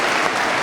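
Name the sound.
applause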